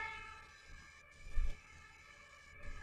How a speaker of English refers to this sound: I don't know if you can hear, but there's an ambulance out there.